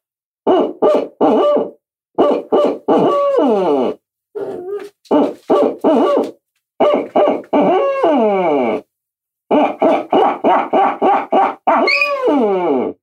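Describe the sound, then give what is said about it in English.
A person imitates owl hoots on a call, repeating quick rhythmic bursts of hooting calls with short pauses between, loud, with some rising and falling whoops mixed in. “He starts howling and barking every time I start owl hooting or quacking on a duck call or anything.”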